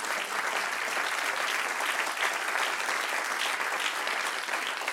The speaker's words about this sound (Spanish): Dale el aplauso al Padre.